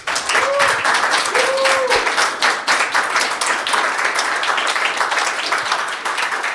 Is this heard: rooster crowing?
no